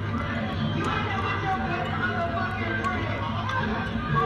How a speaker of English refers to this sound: See how loud it is? Now that's what you hear from, like, just imagine being in the club. So even a motherfucker, even if she like, see look, that's her screaming.